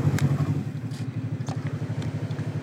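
vehicle, snowmobile engine running

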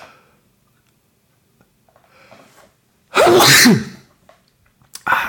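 human body sound, sneezes

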